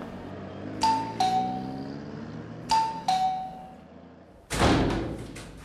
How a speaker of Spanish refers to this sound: El tipo para en una casa de buen nivel y toca el timbre.